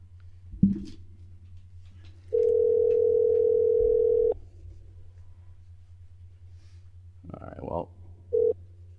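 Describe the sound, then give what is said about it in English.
A steady telephone dial tone as a call is placed to another phone number, humming for about two seconds over a low, continuous rumble, followed later by a brief murmur and one short beep-like tone. “I have another phone number.”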